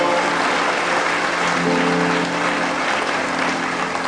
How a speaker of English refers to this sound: That applause was from one or two fairly thick people in this audience.